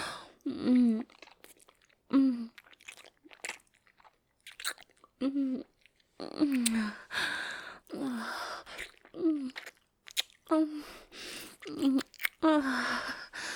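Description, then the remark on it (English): Repeated soft moans and short gasps come in bursts, mixed with wet chewing and crunchy bites, with brief pauses between the vocal sounds. “Oh, I do love these small little moans and gasps I'm hearing.”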